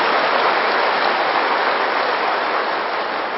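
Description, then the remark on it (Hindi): Loud, dense applause from a crowd, a steady wash of many hands clapping at once that holds evenly for a few seconds with no voices over it. “इसके लिए वो भाग्य विधाता हमारा साथ है, भले जोर से ताली बजाओ, क्योंकि खुशी की बात है।”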